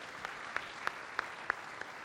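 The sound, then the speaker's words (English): Sparse audience applause for the president after the president's report, heard as six sharp, evenly spaced claps in a slow, steady rhythm, fairly faint over a quiet background, with no voices. “Can you give our president a big round of applause?”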